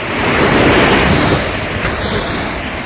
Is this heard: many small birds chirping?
no